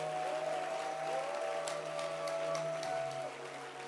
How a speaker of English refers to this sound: Let's clap for Jesus. This one is for Jesus.